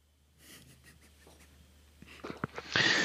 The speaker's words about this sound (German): Entschuldigung, ich muss einmal ganz kurz husten.